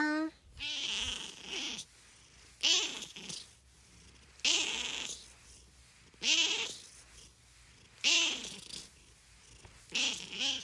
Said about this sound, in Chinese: 那今天的最后，我们就来用我们阿龙的喵喵声作为今天的 ending 吧。